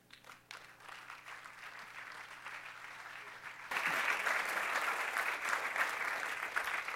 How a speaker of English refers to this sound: I believe it's appropriate to clap for God, so let's clap for God and what he's done in these people's lives.